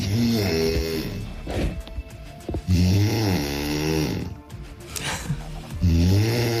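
A woman from Trebbin, Brandenburg, snores loudly in her sleep, three long rasping breaths with rough, buzzing inhales separated by brief pauses, with no talking.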